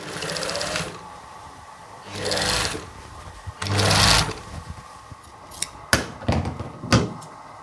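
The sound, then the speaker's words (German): A sewing machine shortening a pair of trousers runs in several short bursts, its motor whirring up and stopping, with clicks and small knocks of handling fabric and parts in between; no talking. “Ich versuche gerade eine Hose zu kürzen.”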